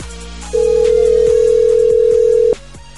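A single long ringback tone of an outgoing phone call, a steady electronic beep lasting about two seconds, heard clearly over soft background music with no one speaking.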